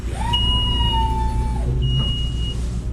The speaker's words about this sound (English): It's a nonprofit food distributor in North Central Florida, and they're on the front lines in the fight against hunger. Trucks drive in and out of the headquarters while people sort food.